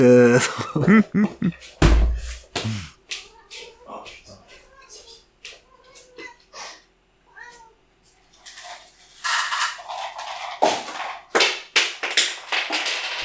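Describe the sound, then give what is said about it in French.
A dog scratches again at a door in repeated, uneven bursts of rough scraping, fairly loud. A cat's meow rises briefly near the start. “et moi, je vais vendre mon chien qui gratte de nouveau à la porte.”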